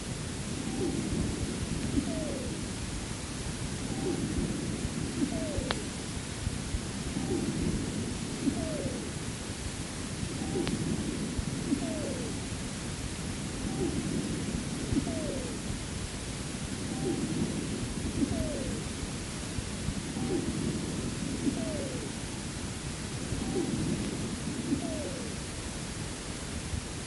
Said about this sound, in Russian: Сейчас вы услышите свистящие хрипы у больной, страдающей хроническим обструктивным бронхитом. Основной дыхательный шум представлен жестким дыханием.